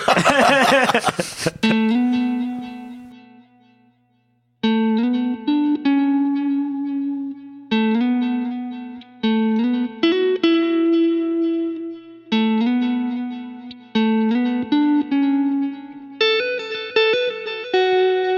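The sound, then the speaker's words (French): A guitar played through an external delay pedal and reverb, its notes repeating in echoing layers and ringing out sustained, after a short burst of noise at the start; no one speaks. “Voilà, ce genre de choses qui sont couplées aussi à mes réverbes.”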